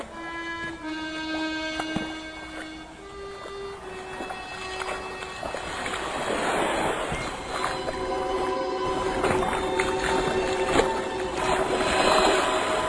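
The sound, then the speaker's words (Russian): A boat engine drones with a steady tonal hum, gradually growing louder and rougher with rushing noise as the vessel approaches across the water. “Наконец, Алик неуверенно проговорил: «Дедушка, мне кажется, я слышу лодку».”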